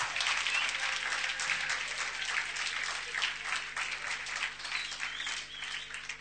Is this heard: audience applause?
yes